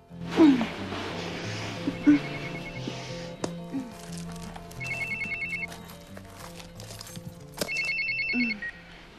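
A mobile phone rings with a repeating electronic ringtone, bursts of bright trilling tones recurring every couple of seconds over a soft musical background, close and fairly loud.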